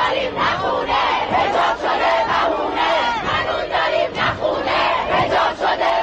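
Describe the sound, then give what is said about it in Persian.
A large crowd of protesters in the cities of Iran shouts and chants together in a continuous, loud roar, voices rising and falling in uneven surges with no single speaker standing out. “مردم ایران بغض فرو خوردهشون رو فریاد می زدن.”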